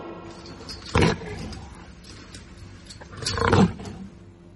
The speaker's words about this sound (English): L for lion. L for lion.